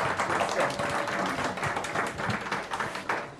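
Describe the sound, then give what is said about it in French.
An audience applauds the invited guests on the programme Les cahiers de l'emploi on Radio Campus 88.3 FM. The applause fills the whole clip, a dense, steady wash of many hands clapping at an even loudness without any voices on top. “On va applaudir alors nos invités et puis on leur dit encore merci.”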